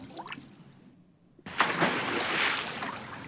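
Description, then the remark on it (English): After a quiet moment, something suddenly drops into water with a loud splash, followed by nearly two seconds of sloshing, churning water. No voices are heard. “Somebody heard something drop in the water.”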